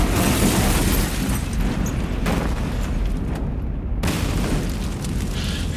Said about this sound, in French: Mais 3 minutes plus tard, une explosion retentit. Une bombe.